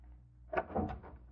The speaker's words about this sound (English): No, I'll try the door. You're locked. I'll use a skeleton key.